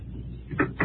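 A door thuds shut, then a lock clicks sharply a moment later, two brief knocks over a low, steady background rumble.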